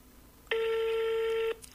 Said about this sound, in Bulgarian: Дава отново свободно.